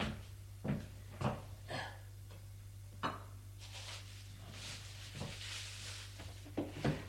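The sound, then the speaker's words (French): A wooden drawer is handled as a bag is taken from it: several sharp knocks and clunks, then a longer rubbing slide as it opens, over a steady low hum. No one speaks. “Il prend un sac dans un tiroir.”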